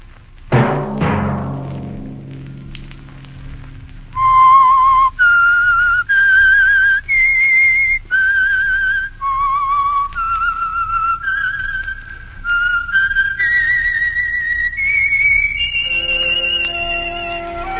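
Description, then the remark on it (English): A short signature theme melody for a radio program, whistled clearly as a sequence of sustained rising and falling notes following a brief sharp opening strike, with no talking. “Let that whistle be your signal for the Signal Oil program, The Whistler, each Sunday night at this same time.”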